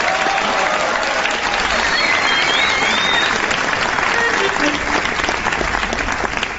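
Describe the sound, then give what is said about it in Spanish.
Sustained applause from an audience welcoming trumpeter Gillespie and his silver trumpet onto the stage, a dense steady wash of clapping that stays loud and even for several seconds, with a few faint whistles and cheers rising above it. “Y bien, amigas, señoras, señores, extendemos el aplauso para recibir en este escenario a la plateada trompeta de Gillespie.”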